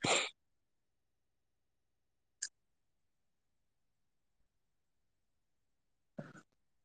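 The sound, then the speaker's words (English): A sharp, loud sneeze bursts out, followed by quiet, a faint tick, then a second shorter sneeze-like burst with a double puff. No one speaks. “Bless you.”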